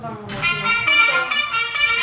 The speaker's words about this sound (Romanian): Abia apuc să scot un microfon că doctorului Arafat îi și sună telefonul cu un apel de guardă militară, cum altfel.